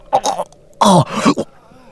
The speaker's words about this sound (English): John grabbed his shoulders and helped him sit up so that he could cough and get his throat clear.